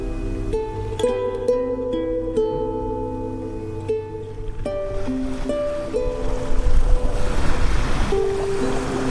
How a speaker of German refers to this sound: Meeresrauschen, Feriengefühl.